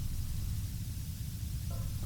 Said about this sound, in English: There's nothing more ominous than static.